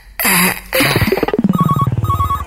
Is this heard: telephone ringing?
yes